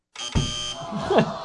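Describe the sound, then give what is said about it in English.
A harsh, electronic quiz-show buzzer sounds once, loud, its steady nasal tone lasting about a second, with a brief sliding vocal noise overlapping near the end. “Buzz.”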